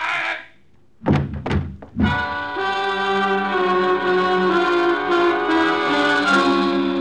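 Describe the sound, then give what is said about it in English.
Three sharp, heavy gunshot-like bangs ring out in quick succession in a dark room after a brief hiss, then a loud, sustained dramatic music chord swells and holds. “But the flash of his gun was all I needed. I fired. And then on the third shot...”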